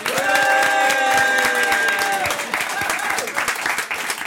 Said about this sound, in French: Applaudissez Anne-Sophie Pelletier.